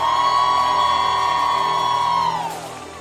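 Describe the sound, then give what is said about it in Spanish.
A large church audience shouts and cheers together in a loud, sustained roar of praise to the King of Kings, holding steady for a couple of seconds before fading down, at a church in barrio Piñas, Toa Alta. “Un fuerte grito al Rey de Reyes y al Señor de Señores.”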